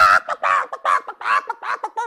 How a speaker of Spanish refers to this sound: Comenzó a cacarear tan fuerte y se puso tan roja y se desplumó completa que todos los demás animales se quedaron asustados.